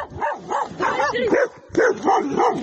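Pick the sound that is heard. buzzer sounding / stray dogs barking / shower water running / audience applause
stray dogs barking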